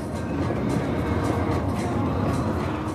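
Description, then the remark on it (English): A bus carrying pilgrims from the city of Aktau on the Caspian Sea, Kazakhstan, out to the mosques at sunrise rolls along the road with a steady, unbroken low rumble of engine and tyre noise, fairly loud and constant throughout, with no talking. “At sunrise each morning, a bus leaves the city of Aktau on the Caspian Sea and carts pilgrims out to the mosques.”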